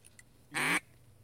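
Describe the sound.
A single loud, raspy quack blown on a duck call to attract ducks, lasting about a quarter second, clear against a quiet outdoor background with a couple of faint bird chirps before it.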